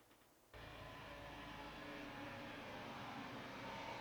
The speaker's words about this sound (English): What if the plane just crashed right into this?